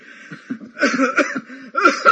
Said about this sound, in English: My God, where's that coming from? It's like an old smoker's cough, and I haven't smoked in 8 years.